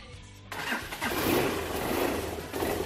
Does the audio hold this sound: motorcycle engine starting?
yes